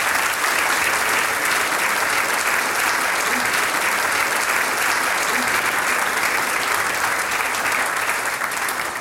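Sustained audience applause, a dense steady wash of many hands clapping at an even loudness for the whole stretch, with no voices standing out.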